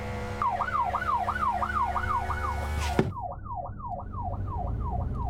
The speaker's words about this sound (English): You know what? Just put the old blues and twos on.